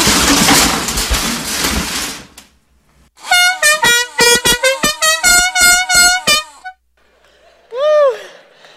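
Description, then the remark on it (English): A loud truck air horn blares in a rapid series of blasts to wake someone up, following a burst of rushing noise and ending with one short, swooping tone. “Babe, wake up, there's a truck coming!”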